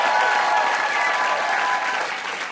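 A crowd claps steadily and loudly for a few seconds for a contestant on a trivia show, a dense wash of hand claps that holds its level and thins slightly toward the end. No one speaks over it.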